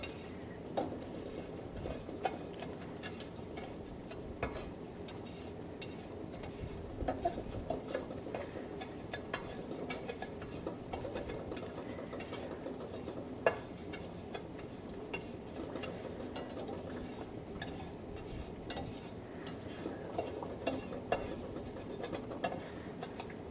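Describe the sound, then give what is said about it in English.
Eggs boil in a pot of water: a steady bubbling patter runs throughout, dotted with small irregular taps and knocks against the pot, and nobody speaks. “And you hear the eggs just boiling away.”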